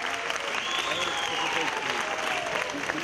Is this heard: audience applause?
yes